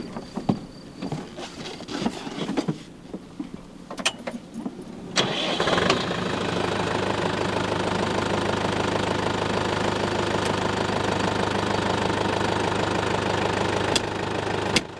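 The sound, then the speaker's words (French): A few mechanical clicks and clunks, then a tractor engine, used for mechanized weeding in an orchard, cranks and starts around the midpoint, settling into a loud, steady diesel idle. No one speaks. “On a besoin d'un tracteur et d'un matériel plus performant.”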